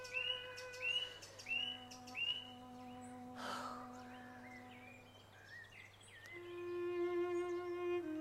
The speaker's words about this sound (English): Daily Mirror, May 1924. On Monday, in the Surrey Woods, the BBC will make an effort to broadcast the Nightingale to all parts of the country.